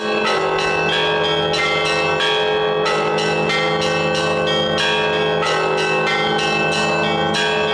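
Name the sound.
church bells ringing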